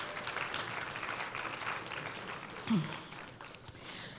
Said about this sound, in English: Give them a round of applause as they head to their seats.